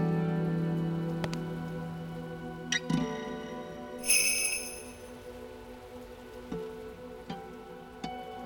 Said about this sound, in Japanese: 重く憂鬱を押し込めるように四方から迫る雨の音。